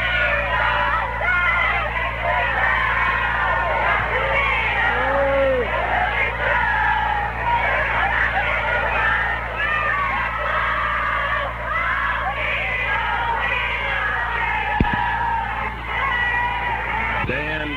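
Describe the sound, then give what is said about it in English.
Thousands of fans on Park Avenue, tuned to WABC radio, cheer, scream, chant and sing together in a steady, loud roar, with many high-pitched voices overlapping and no pauses across the whole stretch. “Let's hear it on Park Avenue, the whole crowd.”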